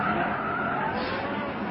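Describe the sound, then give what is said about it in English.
A car's tires screech in a sustained, loud skid as the vehicle swings through a half circle in the road and then turns right into Jetty Street, a steady squealing whine layered over rough road noise with no voices. “suddenly prescribes a half circle in the road, skidding violently.”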